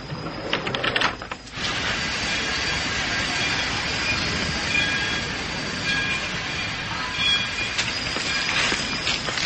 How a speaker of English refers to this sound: Hey, why aren't we moving? The train's in the station, sir. Kimberley.